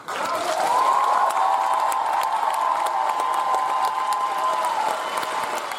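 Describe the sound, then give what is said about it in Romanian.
A concert audience in the Republic of Moldova bursts into sustained applause and cheering at the end of a quintet's concert, dense clapping holding steady and loud throughout, with whoops and raised voices layered over the roar of the crowd. “Caracterul interactiv, dinamismul, simțul fin al stărilor de spirit din sală, maestria vocală și coreografică și sala a explodat în aplauze la sfârșitul concertului.”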